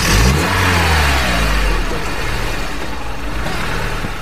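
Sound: car driving off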